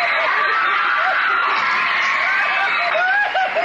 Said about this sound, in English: And that applause versus this.